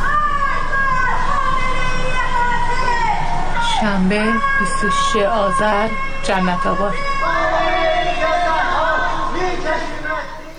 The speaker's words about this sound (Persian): از خانه ها و مجتمع های مسکونی در منطقه های جنت آباد و بلوار مرزداران صدای شعارهای ضد حکومتی به گوش می رسید.